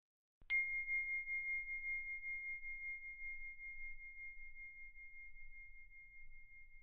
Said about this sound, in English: Let's do it right now. I'll ring the bell to start and then guide you through 3 slow breaths.